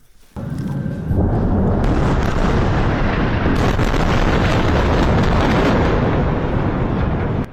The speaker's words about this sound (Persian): صداهایی که در نوار غزه متوقف نمی شود، بمباران و انفجار. و پس از آن آژیر آمبولانس ها.